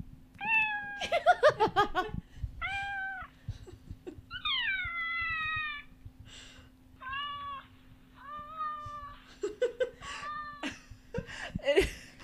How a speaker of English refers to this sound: Obviously, it's a cat meowing, but so many of them sound like the cat's in a lot of distress and pain.